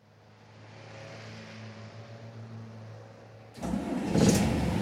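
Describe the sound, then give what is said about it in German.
A large bus engine idles with a low, steady rumble, then suddenly surges louder into a rough, roaring rev near the end, with no voices. “Das ist aber ein ziemlich hässlicher Bus”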